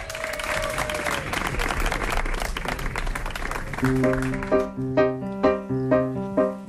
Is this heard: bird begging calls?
no